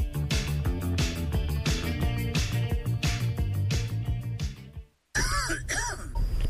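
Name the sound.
cough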